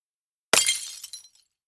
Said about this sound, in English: I turn to the fire extinguisher and break the glass with my shoe.